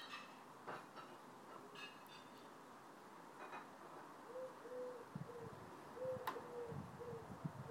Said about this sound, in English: Oh, there's another bird. What sort of a bird that is?